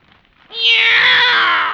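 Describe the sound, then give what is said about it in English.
A single loud, drawn-out meow from a cat brought as a present in a big box, rising in abruptly after a brief quiet moment and holding steady for over a second, with no talking. “It's a cat, Miss Brooks.”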